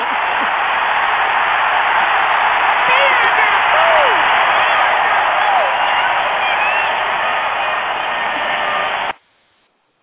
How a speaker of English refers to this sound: And the crowd goes wow.